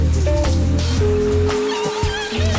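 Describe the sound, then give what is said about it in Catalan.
Shower water runs in a steady, loud hiss with a constant spattering texture, accompanied by a faint sustained hum throughout; no one speaks. “Sota la dutxa.”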